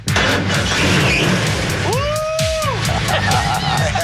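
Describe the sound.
A loud, rough Chevy 350 V8 engine with a 350 automatic transmission in a Chevy truck starts up, roaring and revving, firing off rapid sharp pops and cracks, with a brief rising-and-falling whine in the middle and voices underneath.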